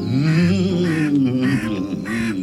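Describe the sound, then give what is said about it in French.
A crow caws loudly, a run of harsh, raspy calls following one another almost without pause. No one is speaking. “Comment on s'intéresse quand même aux corbeaux, ça ?”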